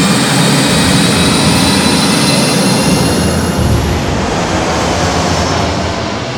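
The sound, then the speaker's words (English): The X-Men's second Blackbird jet takes off toward the city with a loud, continuous roar and a thin high-pitched whine, the harsh upper hiss easing off in the final seconds. No one speaks. “With that, the X-Men pack into the second Blackbird and shoot off towards the city.”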